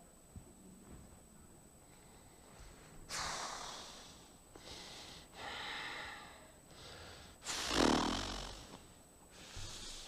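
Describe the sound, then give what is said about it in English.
A person breathing heavily and forcefully in anger, with harsh snorts through the nose and several loud huffs in an uneven rhythm, alone, building to a strong blast near the end like someone fuming with anger. “Thumos is the Greek word of fierceness, as of breathing hard.”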